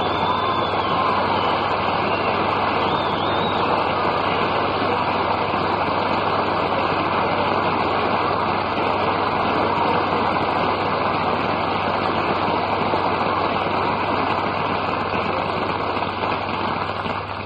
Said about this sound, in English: What a wonderful reception. Believe me, missus, you wouldn't have got much more applause if you'd have been well known.